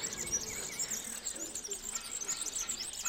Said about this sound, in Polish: Słychać piękne śpiewy ptaków. To jest bardzo ciekawe, bardzo takie miłe dla ucha. Taki spokój i modlitwa ptaków.